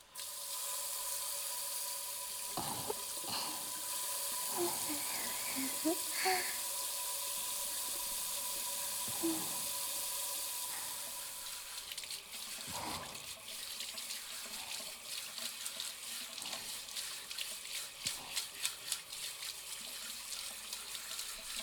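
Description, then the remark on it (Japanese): A shower runs hot water steadily for the whole stretch to rinse off foam, a dense hiss of spraying water, later breaking into a pattering splash as the stream hits a surface. No one speaks. “シャワーで泡洗い流していこっか。”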